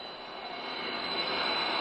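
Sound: jet aircraft engine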